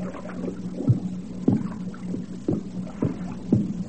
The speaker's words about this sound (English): I walked along the tunnel. I could hear water running. I figured I was about half a mile under the earth.